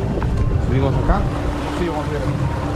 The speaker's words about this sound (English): We took a boat ride